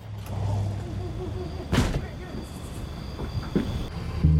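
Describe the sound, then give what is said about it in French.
A van's engine rumbles with a steady low drone, swelling briefly as it pulls up right behind a car, with a few short bumps and clatters over the engine noise. “vit la camionnette du gang arriver juste derrière sa voiture.”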